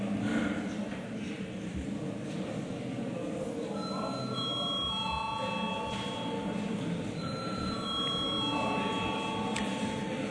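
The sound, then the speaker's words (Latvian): A parliament bell calls a vote on the first reading of a bill amending the law on state pensions: a steady, high electric ring for several seconds, sustained tones layered over a constant low murmur of voices and shuffling. “Paldies, lūdzu zvanu.”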